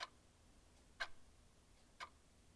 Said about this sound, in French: Dans le manoir, c'est le silence. Seule, la pendule de la grosse horloge du salon balance en émettant un clic-clic-clic régulier et lointain.